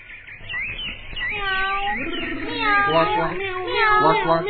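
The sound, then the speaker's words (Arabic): A voice imitates a cat meowing: a long, wavering, high-pitched meow, loud and close, that rises and bends over several seconds after a brief rustly start. “مياو. انظروا ماذا اشترت لي أمي اليوم.”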